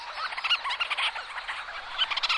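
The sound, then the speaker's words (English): A dense chorus of burrowing seabirds scurrying about the ground, calling to their mates while trying to find their own burrows, with overlapping squealing, chattering cries that rise and fall continuously through the whole stretch, fairly loud and with no talking. “and then scurrying about, calling to their mate, trying to find their particular burrow.”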